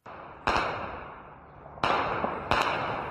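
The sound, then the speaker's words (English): Three sharp, cracking gunshots ring out at uneven intervals during gun battles in the area where a university is located, each with a ringing, echoing tail, over a steady background hiss. No one speaks. “Now, the area where the university is located has seen some of the fiercest gun battles.”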